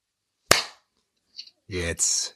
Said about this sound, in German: Darf ich nochmal kurz klatschen? Nee. Weil das hat bei mir, nicht aufgenommen.